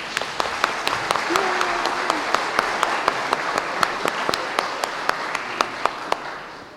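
An audience applauds to welcome a newly baptized girl, a steady wash of clapping from many hands with sharper individual claps popping out at a fairly regular beat, holding even for several seconds with faint murmuring underneath.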